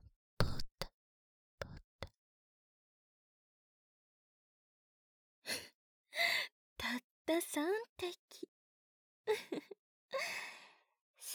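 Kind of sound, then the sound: human body sound, heavy breathing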